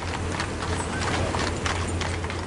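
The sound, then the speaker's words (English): Horse hooves clip-clop steadily on pavement as a six-horse team pulls a caisson bearing a coffin up Constitution Avenue to the Capitol at a measured pace, with a constant low rumble and the ambience of a large outdoor crowd along the National Mall underneath. “The applause that followed would break out many more times as a six-horse team pulled a caisson bearing the coffin up Constitution Avenue to the Capitol.”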